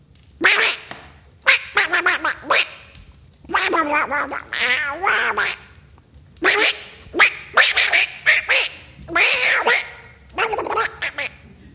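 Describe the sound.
A voice imitates duck-like quacking chatter: rapid, nasal honking bursts in uneven clusters with short pauses, loud, with no other sounds around it.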